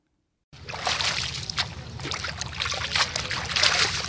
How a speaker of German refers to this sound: wäscht ein Bund Blätter im sandigen Wasser des Weißen Nils.